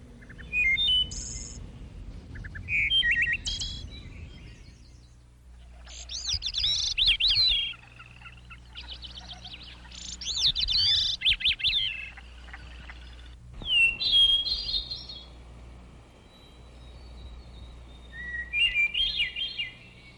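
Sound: birds chirping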